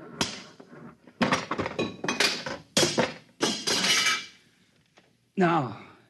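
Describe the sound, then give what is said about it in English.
A machine that controls a buzzer is smashed with a series of loud, irregular crashing blows and rattling metallic clatter, several bursts in quick succession, followed by a brief voiced sound at the end. “I'm going to smash it.”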